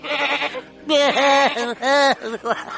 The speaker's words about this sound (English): Oh, look, a goat.